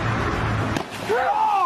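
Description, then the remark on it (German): A single sharp, heavy slap of a person landing on a water-covered trampoline, a brief splashy crack as the water is displaced, amid a murmur of voices, followed by a rising, wavering vocal sound. “Man hört richtig, wie das Wasser verdrängt wird und er aufklatscht.”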